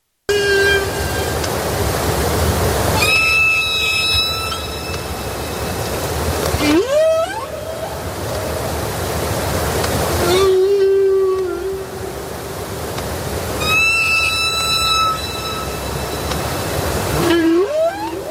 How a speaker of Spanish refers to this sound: ¿Entendieron? Bueno, yo tengo un doctorado en canto ballenil, así que les puedo traducir.